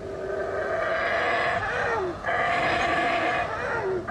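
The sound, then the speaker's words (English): Male monkeys in a rainforest roar and howl to each other across the tree canopy in a loud, steady chorus of overlapping, droning calls with sliding pitch. Near the middle they drop out briefly, then resume at full strength. “And they're calling to each other, roaring, howling across the canopy.”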